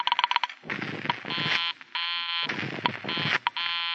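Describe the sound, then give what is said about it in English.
A harsh, buzzy electronic tone pulses on and off in a repeating pattern, switching between a bright, steady buzz and a rougher, noisier burst: a telephone busy signal heard after dialing a number that was busy. “The number she was calling was busy.”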